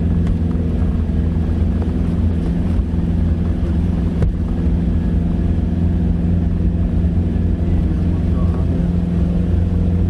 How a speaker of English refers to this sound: Cue fast, windy truck ride.